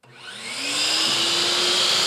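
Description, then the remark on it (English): A circular saw in a lit shop-class workshop run by a youth nonprofit in St. Louis spins up, its motor whine climbing in pitch over the first second and then holding as a loud, steady buzzing roar with a bright hiss on top. No one speaks. “The sound of a circular saw and the banging of rubber mallets echo throughout the lit shop.”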